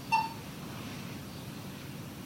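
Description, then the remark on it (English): A single short electronic beep from a currency reader device as a bill is inserted sounds right at the start, crisp, then fades into a low, steady background hum with no further tones and no talking. “Yeah, so you heard that second beep? Yeah. That means it's doing double duty and going through it.”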